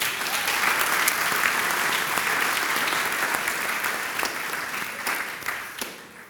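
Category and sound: crowd, audience applause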